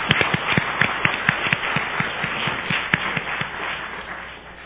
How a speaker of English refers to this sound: Thank you very much. The job well done. 谢谢大家，大家干得非常好。 They give yourself a round of applause. 我们大家鼓励自己鼓掌。